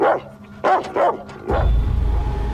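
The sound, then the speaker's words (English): A dog barks several times in quick succession, fairly loud, with yips between, followed by a low rumbling noise like wind or an engine. “looks at the dog, which cowers.”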